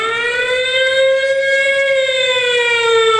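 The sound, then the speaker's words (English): A loud, sustained siren wail holds steady with a slow rise and fall in pitch, rich in harmonics, sounding alone without any voices over it. “Because that siren will be going off if you get on to the bathroom for real after having you one of those.”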